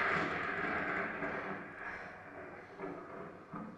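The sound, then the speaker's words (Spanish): Thunder, played as a sound effect of thunder and lightning, rolls in a loud, continuous rumbling roar that barely lets up, swelling slightly a couple of times near the end. No voices are heard. “Empieza por los truenos y los relámpagos.”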